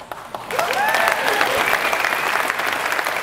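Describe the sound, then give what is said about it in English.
A room full of people bursts into applause after a brief pause, the dense clapping swelling quickly and holding steady and loud for the rest of the moment. “Don't clap yet.”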